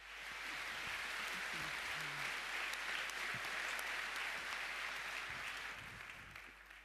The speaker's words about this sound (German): Also einen warmen Applaus.